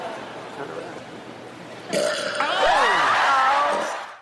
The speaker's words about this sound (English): That wasn't a letter. That was just a burp.